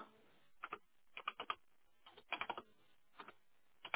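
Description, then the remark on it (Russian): Keys clatter on a computer keyboard in short, irregular flurries separated by brief pauses, the clicks fairly faint, with no voices. “Кто-то печатает.”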